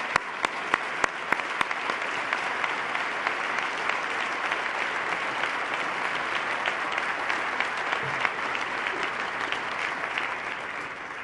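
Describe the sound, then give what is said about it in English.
An audience breaks into sustained applause for New York Senate Majority Coalition Leader Dean Skelos, Assembly Speaker Sheldon Silver and Senate Leader Jeff Klein, who are asked to stand. A dense wash of clapping stays steady for about eleven seconds, with a few sharper individual claps standing out early on. “Please stand, gentlemen, so we can give you a round of applause.”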